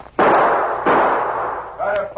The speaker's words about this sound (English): Pete fired two shots over the driver's head.